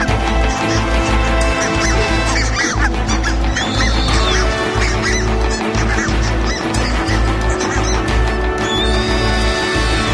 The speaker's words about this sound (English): The two owls attack, sending the large geese fleeing for their lives. Although the geese match the owls for size and weight, both the male and female could easily take down a goose single-handed.